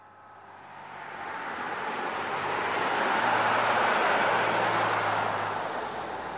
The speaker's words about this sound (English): Oh, no. There goes the last bus.